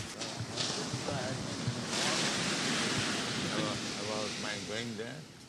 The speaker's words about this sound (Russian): Беседа на утренней прогулке 14 июля 1974 года в Марина Дель Рей, Лос-Анджелес. Море постоянно движется.